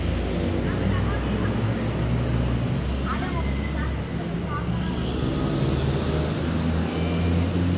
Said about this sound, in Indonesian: Serius, deru mobil itu kayak harmoni yang indah, tau gak sih?